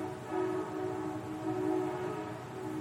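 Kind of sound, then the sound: vehicle, passing train horn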